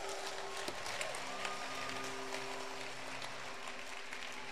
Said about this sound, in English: Give the Lord a clap.